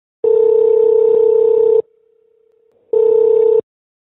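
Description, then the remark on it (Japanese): A steady electronic telephone tone sounds alone as a call is transferred without hanging up to the Kagoshima Prefectural Police in Japan, holding for about a second and a half, dropping to a faint hum, then returning for another second or so, clear with no voices. “じゃあこのままですね、電話を切らずにすぐ転送いたしますね。”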